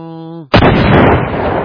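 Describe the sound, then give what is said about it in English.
A steady harmonic tone cuts off abruptly into a sudden, loud booming blast, played as a lightning sound effect, that sustains as a broad, rumbling roar, sounding more like a bomb explosion than thunder. “That was more like a bomb blast.”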